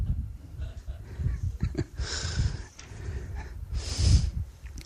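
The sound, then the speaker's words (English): Breathing noise picked up by a microphone: two loud, airy breaths blow straight into the microphone with a pause between, over a low rumbling background and no speech. “Then, again, the breathing is still coming up?”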